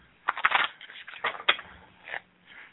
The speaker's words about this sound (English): Stop shuffling.